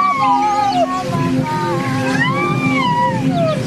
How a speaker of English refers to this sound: Now, amazingly, that sound you hear there is actually the sound of a baby rhino. And they've got the biggest orphan rhino sanctuary in Mpumalanga.